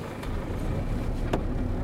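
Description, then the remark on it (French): A car rolls slowly forward on Avenue France Fanon, through an opened barrier up to a porch, its engine a steady low rumble, with two brief sharp ticks breaking through the drone. No one speaks. “C'est bon, ils ouvrent la barrière. Avancez jusqu'au porche.”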